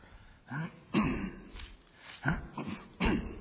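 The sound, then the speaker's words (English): The speaker coughs and clears their throat harshly, about four or five bursts spaced irregularly over a few seconds, fairly loud against a quiet background. “I'm coughing as much as you guys are.”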